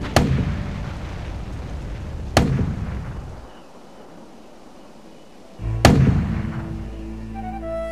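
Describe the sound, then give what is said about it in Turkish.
The heavy guns of the battleship Ocean fire on Turkish forts, three thunderous shots at uneven intervals, each a sharp blast followed by a deep, rolling rumble that fades before the next round. “Ateş kusan bir canavarı andıran Ocean öyle korkunç bir şekilde ateş açıyordu ki Türk tabyaları bu ateşler sonucunda toz duman arasında kalmaya başlamıştı.”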